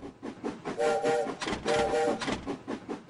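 A train rumbles steadily while its whistle gives two short, bright toots in quick succession, fairly loud, with no voices.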